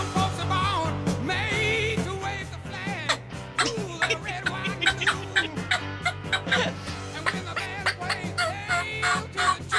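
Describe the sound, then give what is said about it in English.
A turkey gobbles over and over in quick, warbling, rattling bursts, loud and choppy, with a steady low hum running underneath the whole time. “Turkey. I did not expect that.”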